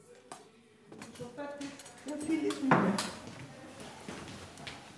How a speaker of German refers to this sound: Im Gemeinschaftsraum räumt eine Pflegerin Gläser in die Spülmaschine.